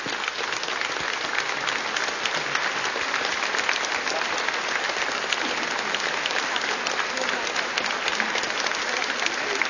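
Sustained applause from a large standing audience as symbolic flowers from Nowy Targ are presented to Father Tadeusz Rydzyk and other priests, dense and steady clapping at fairly loud level throughout, with no break or clear voices standing out.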